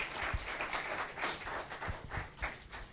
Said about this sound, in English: Amen. Let's give the Lord another great hand clap of praise, church.